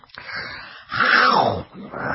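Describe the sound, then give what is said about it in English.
A man voices a rough, throaty growl while eating steak, swelling loudly in the middle and trailing off, then starting again, like an animal snarling over food. “I mean, I really get into that meat. I growl.”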